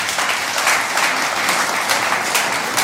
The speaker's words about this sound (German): Nach dem Applaus bei unseren Sängern und Musikanten bedanken.